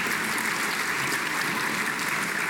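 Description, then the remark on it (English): A crowd at an awards evening claps for every winner, a dense, even patter of many hands filling the whole clip at a fairly loud, constant level with no voices over it. “Please, before I do my other job, a round of applause for every single winner this evening.”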